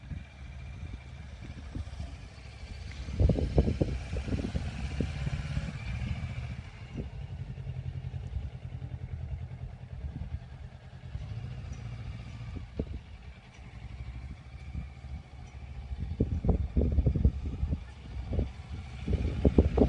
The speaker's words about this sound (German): Ja, also das ist meine erste Motorradstunde.